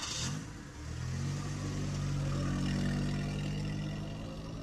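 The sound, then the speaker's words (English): A car engine turns over with a short burst, then settles into a steady rumble that builds slightly as the vehicle pulls away from an arc light in the evening. No voices are heard. “You pull away from the arc light from an evening that provided more problems than answers, even though you do have a couple leads to follow.”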